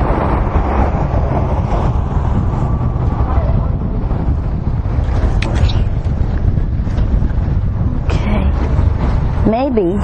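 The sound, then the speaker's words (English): Steady wind buffets the microphone throughout, a loud low rumble and roar that never lets up, with faint voices and outdoor sounds half-buried beneath it. “thinks it's a nice breeze.”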